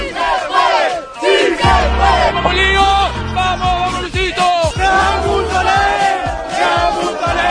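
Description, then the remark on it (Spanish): A large football crowd leaving the Camp Nou stadium chants loudly in unison, many voices singing together in a steady rhythmic pattern with sustained, harmonized tones and no pauses. “Y sin embargo, ¿cómo salía la gente del Camp Nou ayer? Escuchen.”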